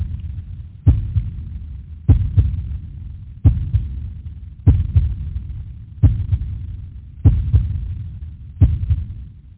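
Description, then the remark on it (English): A loud, steady heartbeat thumps in a slow, even rhythm, each beat a doubled lub-dub, over a low, murky throbbing hum with no voices. “We await that tolling bell heartbeat that digs its own grave to unearth that raven's squawk where you offer that funeral dirge now rung.”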